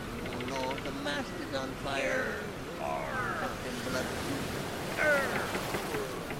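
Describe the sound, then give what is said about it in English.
A steady rushing wash like sea waves against a ship's hull, with several voices talking and calling over it, one rising briefly louder near the end. “And the sound of a bunch of angry pirates floating down a magical sea in the 16th century, let's say.”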